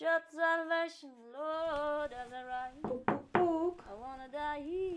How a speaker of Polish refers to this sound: Puk, puk. Przepraszam.